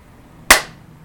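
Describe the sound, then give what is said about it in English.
A single sharp hand clap, loud and crisp, given as a cue to enter a state of deep sleep during a guided relaxation, standing alone in quiet with a brief fading tail afterward and no voices. “And when I clap, you're going to enter a state of deep sleep for me.”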